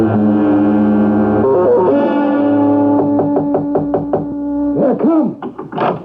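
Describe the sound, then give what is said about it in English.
A quick series of sharp raps on a door, evenly spaced, sounding over a loud, sustained and somewhat distorted music score with a reverberant, echoing quality. “Come in, close the door.”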